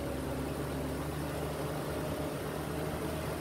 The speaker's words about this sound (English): As the boss prepared himself mentally for what he was going to possibly be experiencing over the next 12 hours, he felt the troop truck slow down as it arrived to the hardstand of Georgia Bell.